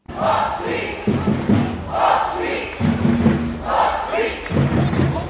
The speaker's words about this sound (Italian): Un fiume rosso-bianco per le vie della capitale, tifosi e tifose, grandi e piccoli, in 25.000 a gridare Hop Swiss.